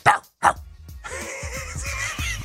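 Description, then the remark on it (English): A man imitates a dog, letting out two loud, sharp barks in quick succession, before a steady, busy rhythmic background noise takes over. “Is he doing …? Yeah, that's why he's barking.”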